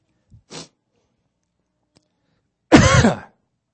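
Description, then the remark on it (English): A short, quiet throat-clearing sound, then after a pause a loud, raspy burst of throat clearing and coughing lasting about half a second, with no talking. “Let my cough drop take effect here.”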